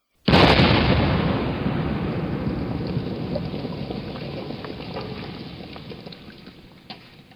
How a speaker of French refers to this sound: Au même moment, un grand nuage de fumée blanche sortit du navire de guerre. Une détonation terrible retentit, et un énorme boulet de canon retomba en plein sur la digue, pile au milieu.